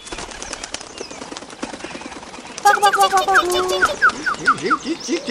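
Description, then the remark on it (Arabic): A burst of rapid wing flapping as a bulbul takes off and flies away after taking food from a sparrow's nest, followed by several short chirping calls, clear over a soft background. “في تلك الأثناء تجرأ بلبل ودخل عش العصفور وأخذ طعامه، ثم طار بعيدا بعيدا بعيدا جدا جدا عن الأنظار.”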